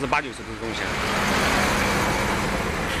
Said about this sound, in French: Les wagons sont à peine déchargés que des camions sortent par dizaines de la gare ferroviaire. Une véritable caravane des temps modernes qui transportera la marchandise aux quatre coins de la Chine.